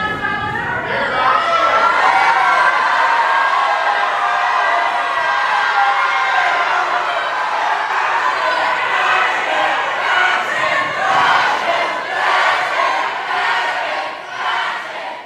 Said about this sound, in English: And a lot of chants, a lot of shouts of fascists.